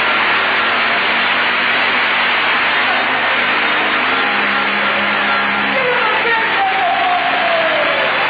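A large crowd claps and cheers in a dense, steady wash of sound that stays loud for the whole stretch, with a few voices and whistles rising above it near the end.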